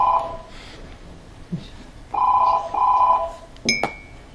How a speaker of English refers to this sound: Just stop for a second while that phone is ringing.